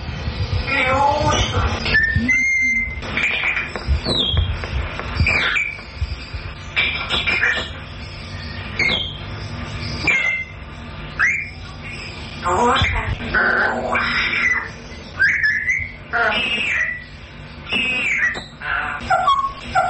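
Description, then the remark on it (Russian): Parrots chatter back and forth with each other in Russian words, trading squawky, speech-like phrases and sharp whistles in a steady, overlapping stream for the whole stretch. “И они между собой разговаривали и общались по-русски, по-человечески.”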